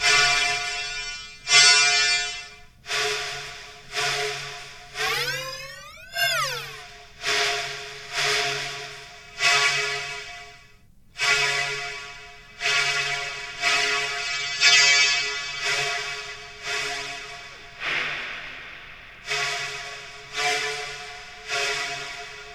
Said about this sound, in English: You could have just recorded yourself blowing into a PVC pipe instead of spending 2 hours synthesizing it.